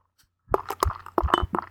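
Dark Yeti beer pours into a glass in a quick series of gurgling glugs with a faint clink, lasting just over a second after a brief quiet start.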